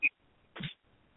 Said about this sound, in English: Like sniffing. You'll hear it sniffing too, but it's saying it before it's actually sniffing. Yeah. You can hear it trying to sniff.